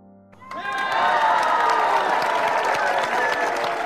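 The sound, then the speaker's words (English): A big crowd erupts into loud, sustained cheering and applause, the roar swelling up quickly after a quiet start and holding steady, with high excited voices mixed in. “A huge cheer rose from the crowd.”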